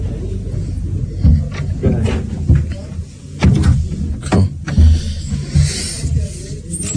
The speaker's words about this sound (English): Yeah, maybe I should shut the door. Okay.